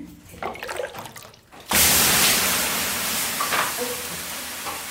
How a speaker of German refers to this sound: Und dann zischt und dampft es aus dem großen, heißen Saunaofen. Am Klang des Aufgusses kann man angeblich seine Qualität hören.